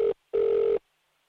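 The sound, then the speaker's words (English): Ringback tone of an outgoing phone call to a funding applicant: two bursts of a steady, mid-pitched electronic purr, a short one then a longer one, separated by a brief gap, with no talking. “And yesterday, I took the time to make a phone call to tell one of the applicants that we were going to give them the money they wanted.”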